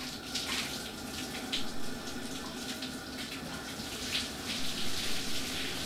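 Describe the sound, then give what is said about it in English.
A shower runs steadily beside a sauna, a continuous hiss of spraying water at moderate volume with small splashy fluctuations throughout and no voices. “I dropped that towel and followed the girls into the shower and the sauna.”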